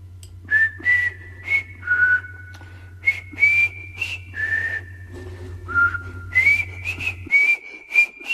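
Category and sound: human body sound, human whistling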